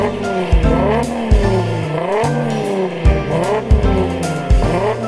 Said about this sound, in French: Pour les amateurs de voitures, il y a des sons incroyables, incomparables, inoubliables.